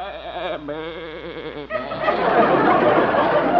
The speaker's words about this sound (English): You're sure fond of that goat, aren't you